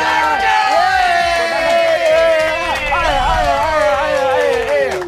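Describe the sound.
An audience cheers loudly and steadily for about five seconds, voting by noise for the funniest comedian, with many voices yelling and whooping over one another in a continuous, excited roar.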